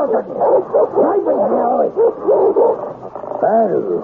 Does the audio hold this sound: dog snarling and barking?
yes